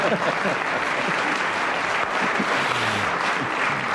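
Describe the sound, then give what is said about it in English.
An audience claps steadily throughout, a dense, even wash of many hands with no pauses, holding at a constant loudness for the full length, with faint murmuring beneath. “Deeply accurate, and worth a round of applause, I think.”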